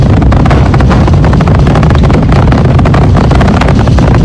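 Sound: rocket engines roaring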